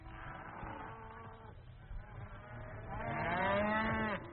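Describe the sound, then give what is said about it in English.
A cow moos loudly, a long low call at the start followed by a second, stronger drawn-out moo that swells and then fades. “The cow became a very useful animal.”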